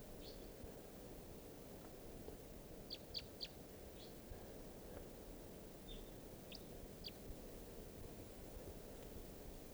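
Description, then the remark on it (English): A flock of five wild birds flying across a river gives short, faint chirping calls in scattered bursts, a few clustered together, over a steady rushing background like wind or flowing water. “These are the wild birds.”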